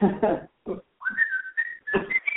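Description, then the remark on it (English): A short whistled jingle from an Old Spice commercial, a few sustained, slightly rising notes, fairly loud, following a couple of brief voiced syllables at the start. “Old Spice. Old Spice. I can't do the whistle.”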